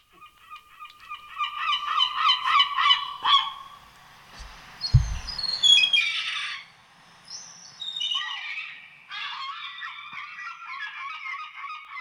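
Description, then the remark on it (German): Harsh, nasal seagull calls in Mettenhof, played back from a phone, ring out in quick repeated bursts, loud, with a short rumbling thud partway through before the squawking resumes. “Das war eigentlich eindeutig eine Möwe, ja.”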